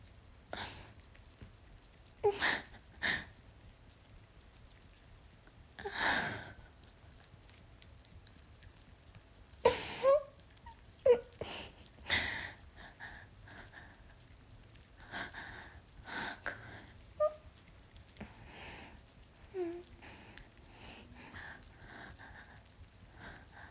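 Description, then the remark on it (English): Heavy, uneven breathing of a woman as her orgasm builds, with sharp gasps and breathy exhales arriving in irregular bursts. The breaths are soft to moderate in volume, with no talking. “And the way that my breathing is just...”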